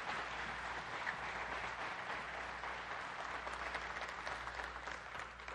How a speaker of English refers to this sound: You can now, ladies and gentlemen, give a round of applause to your Savior for his word.